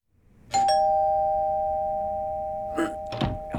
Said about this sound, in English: We ring the front doorbell.